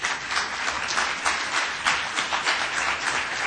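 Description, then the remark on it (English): A crowd applauds steadily, many hands clapping in a dense, continuous wash of sound with small swells, moderately loud throughout, no voices heard; the audience at a Philippine National TB Program session welcomes Assistant Secretary of Health Elmer Punsalan. “Ladies and gentlemen, please give a warm round of applause to our Assistant Secretary of Health, Elmer Punsalan.”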